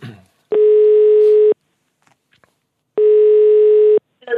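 A telephone ringback tone as NRK P3 dials the number of a competition winner, a student chosen at random from a class: two loud, steady one-second buzzes separated by a pause of about a second and a half, with brief fragments of voice at the very start and end.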